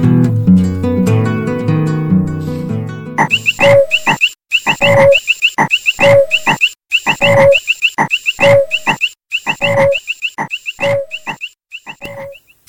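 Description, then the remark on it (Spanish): A brief burst of music gives way to a toad croaking over and over in a steady, fast rhythm, the loud, rasping calls coming roughly twice a second with no one speaking. “Del sapo se cuentan muchas cosas.”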